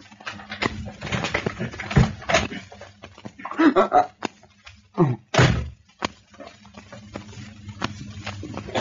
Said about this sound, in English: Sooner or later, he would have to look. It might as well be now. Bravely now, he unlocked the door.